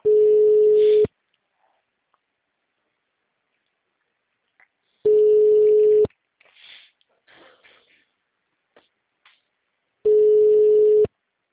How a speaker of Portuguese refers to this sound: Vou ligar até alguém me atender. Tem nada pra fazer? O número não responde.